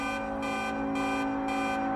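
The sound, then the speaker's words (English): Loud, jammed city traffic outside Union Station after an earthquake, with stoplights out: a constant dense drone with a harsh alarm-like tone pulsing on and off roughly every half second, steady throughout, with no voices. “Stoplights are out, traffic is jammed, and it's loud.”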